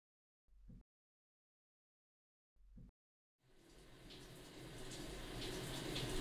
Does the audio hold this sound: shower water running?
yes